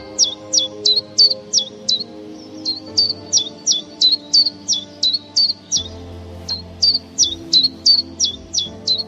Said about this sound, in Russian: Пеночки внешне похожи, но хорошо различаются голосами. Демонстративные песни пеночек позволяют безошибочно их определить. Вот голос пеночки-теньковки.